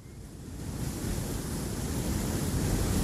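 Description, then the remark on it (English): Steady, salty wind roars over surf crashing below a sea cliff, a broad continuous rumble of waves heavy in the low end and gradually swelling louder, with gusty buffeting on the microphone and no voices. “But here, in the impossibly salty wind, I really did feel like I'd traveled about as far as anyone can go.”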